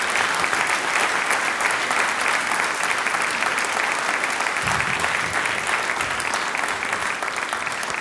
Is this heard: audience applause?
yes